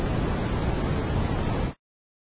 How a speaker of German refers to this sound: Fertiges Rauschen.